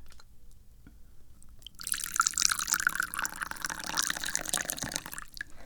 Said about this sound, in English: Anyway, I've got some tea. I need to drink it, so let's pour it.